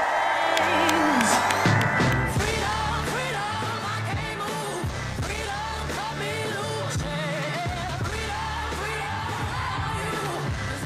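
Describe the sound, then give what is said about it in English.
A large outdoor crowd at a Kamala Harris rally, on former country music festival grounds just north of Eau Claire, cheers, whoops and yells after her speech, continuously at a steady, loud level for about eleven seconds, with the roar filling the space and no single voice standing out. “Vice President Kamala Harris speaking to a rather large crowd in just north of Eau Claire at the site of a former country music festival grounds.”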